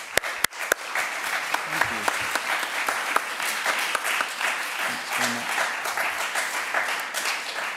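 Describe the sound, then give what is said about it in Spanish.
An audience in San Sebastián applauds the team of the film Supernova, director Harry McQueen and producers Tristan Goliger and Emily Morgan, steadily: dense overlapping claps forming a loud, continuous wash of sound for several seconds, with a few sharper individual claps standing out at the start. “Os pido un fuerte aplauso para ellos antes de empezar.”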